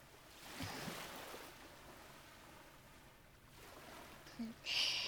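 A steady wash of surf rolls in and out in the background, a soft continuous roar of waves, with a brief brighter swell of noise near the end.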